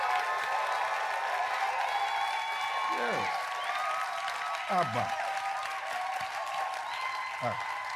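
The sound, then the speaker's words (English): An audience applauds steadily for itself throughout, a dense wash of clapping, with voices calling out and a speaker's voice rising over the noise. “With all the things you have survived, don't you think you deserve a round of applause?”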